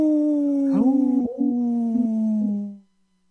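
wolf howling

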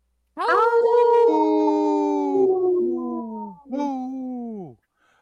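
wolf howling

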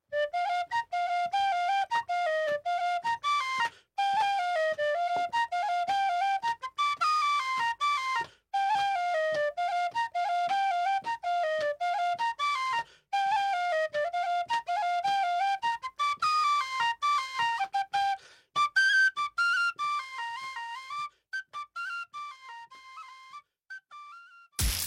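tin whistle playing

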